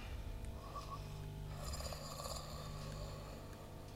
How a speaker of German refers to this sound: Sie schnarcht. Die meiste Zeit schläft sie.